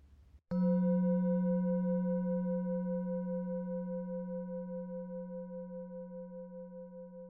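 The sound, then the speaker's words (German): A singing bowl is struck once as the cue to breathe out fully during a guided relaxation exercise, giving a bright attack followed by a long, steady ringing tone with a low hum and shimmering overtones that slowly fade but keep sounding to the end. “Bleiben Sie beim Bauch und beim Klang der Klangschale atmen Sie ganz aus und ziehen Ihren Bauch ganz ein.”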